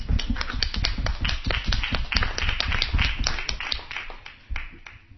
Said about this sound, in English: I'll give that an applause.